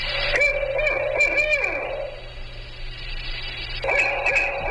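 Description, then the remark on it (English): A barred owl, an eastern owl species, hoots in a rising-and-falling series with a drawn-out descending end, pauses, then starts calling again over a steady low background hum. “The barred owl, which has been outcompeting its slightly smaller northwestern relative.”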